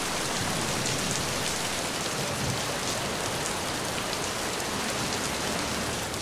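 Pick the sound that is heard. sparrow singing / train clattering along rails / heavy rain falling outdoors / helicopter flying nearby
heavy rain falling outdoors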